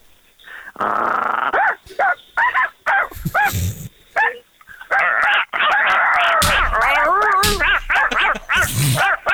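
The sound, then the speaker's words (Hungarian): Two dogs, Maszat and Csöpi, let together in a dog fight, trade loud barks, yips and whiny growls in rapid back-and-forth bursts, Maszat starting and Csöpi joining in, with the exchange growing more continuous and frantic toward the end. “Összeengedjük a két kutyát, elkezdi az egyik, reagálja a másik.”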